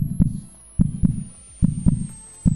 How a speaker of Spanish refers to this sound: Ese latido permanente en la cabeza te va bombeando y sigue, pasan los minutos, pasan las horas y sigue y cada vez es más intenso.